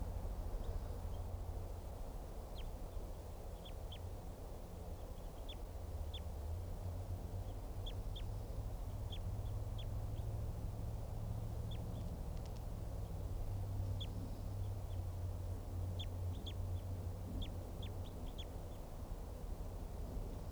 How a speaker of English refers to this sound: Wild bird. Stop. Just recorded that wild bird and collected the bird.